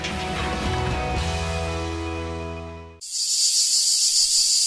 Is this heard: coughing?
no